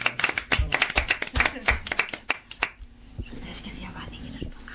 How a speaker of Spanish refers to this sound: también la vamos a dar un fuerte aplauso, que está aquí tu novio.